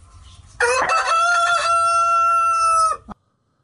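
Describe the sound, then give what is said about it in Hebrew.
A rooster crows once, loud, a long drawn-out cock-a-doodle-doo lasting a couple of seconds with a brief clipped note at the end, against a faint low background rumble; played as a listener quiz clue for the book The Rooster Prince. “סמי, קוקוריקו.”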